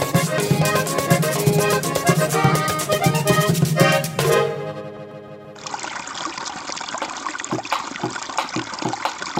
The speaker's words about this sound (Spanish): Hoy el río suena, hoy el río canta, agua, agua.